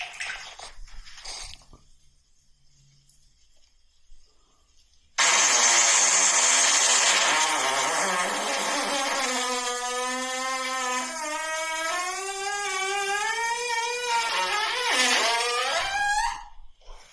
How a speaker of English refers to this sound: Yeah, see? Different tone. Starts off deep, gets high. And that, you think it should have been 5 seconds less. A normal, like a good fart would be 5 seconds less than that.